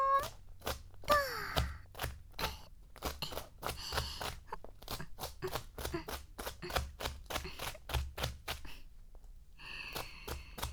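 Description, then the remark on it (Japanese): A knife chops a bell pepper on a cutting board in a steady, quick rhythm of crisp thuds, with brief pauses and a faint squeaky sound early on. “パプリカさん、トントントン。”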